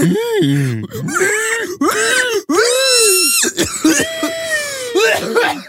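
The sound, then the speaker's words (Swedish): A person imitates a pig squealing with a run of loud, strained, high-pitched squeals and grunts in quick succession, each rising and falling in pitch, with no talking. “Grisskriket? Nej. Squeal like a pig i sista färden.”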